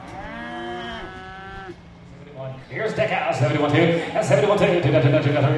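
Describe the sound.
A cow lets out a long, loud moo, followed by a busy stretch of overlapping voices and more lowing cattle in a crowded, echoing livestock auction barn at the OKC West Livestock Auction in El Reno, Oklahoma, where buyers and sellers sit in the stands to watch cattle sell.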